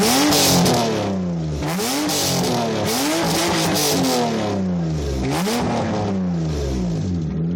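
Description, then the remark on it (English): A loud, straight-piped flat-six exhaust on a Subaru SVX revs repeatedly, its raspy note climbing and dropping in several quick surges with no one talking. “But if I owned an SVX, make no mistake, the exhaust is coming out.”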